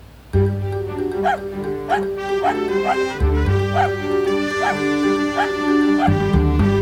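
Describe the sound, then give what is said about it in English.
A bouncy "Dog News" segment jingle with a steady bass line and sustained tones, punctuated by short, regularly spaced dog barks or yips layered into the music throughout. “Cue the dog news music.”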